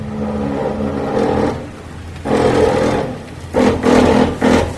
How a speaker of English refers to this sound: In late February, workers pulled a houseboat out of Lake Lanier. It was beached on the shore for years, the hull rusted all the way through. Two backhoes pulled the boat out of the cove and dragged it along the shoreline.